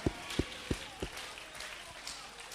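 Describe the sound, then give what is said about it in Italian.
A church audience applauding the name of the Lord: a few loud, evenly spaced claps stand out at first, then settle into a softer, scattered wash of clapping from the crowd. “Vogliamolo dare e applaudire il nome del Signore.”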